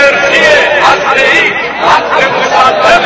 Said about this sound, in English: The crowd responded with cheers, chanting, "Nuclear energy is our absolute right."